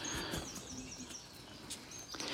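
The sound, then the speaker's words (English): A busy chorus of many noisy birds chirps and tweets continuously outdoors where alpacas are kept, several calls overlapping against a steady outdoor hiss, with no one speaking. “Surrounded by birds. So many noisy birds at the moment.”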